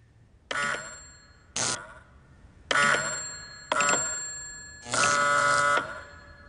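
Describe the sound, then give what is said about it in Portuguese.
An electric bell on a wireless receiver, set off by pressing a button on a separate transmitter with no wire between them, rings in five short, loud bursts of varying length, its rattling metallic clang starting and stopping abruptly with brief quiet gaps between, with no talking. “Então, se eu aperto o botão deste lado, ele dispara a campainha no receptor.”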